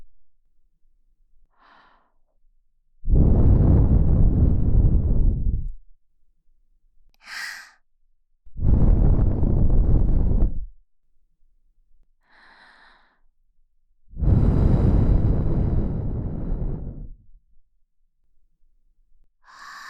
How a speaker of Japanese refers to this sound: でもね、安心して、もっとしてあげるから。 私たちの吐息、たくさん堪能してね。いくよ。